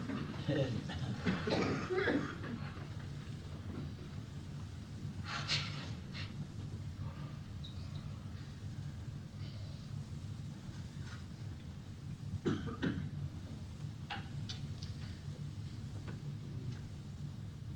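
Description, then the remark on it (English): Scattered coughs from several people trying to cough on request, a cluster at the start and more isolated bursts later, heard against a steady low background rumble, like a crowd. “Anybody that's trying to cough, try twice as hard now to keep Papa from going away.”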